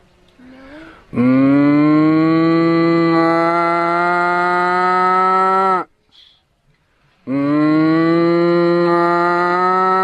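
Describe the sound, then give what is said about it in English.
Two long, loud cow moos, the first lasting several seconds, then a brief pause before the second begins; deep, steady lowing with rich harmonics and no talking. “Which group? Cows. Gokadamba. And what are those cows doing? Rambamana.”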